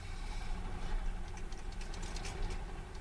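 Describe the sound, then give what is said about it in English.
A 1901 car's engine, primed with petrol, runs with a steady, rough idle, fairly loud, with faint ticking and clatter over the low rumble, on the morning of July 13th as the Irish Veteran and Vintage Car Club prepares for the first Gordon Bennett commemoration rally. “I have to prime the engine with petrol.”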